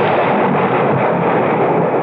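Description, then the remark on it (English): A loud, sustained roll of thunder on a stormy night rumbles and crackles steadily through the whole stretch, heavy, with no voices over it. “Our tale begins one stormy night”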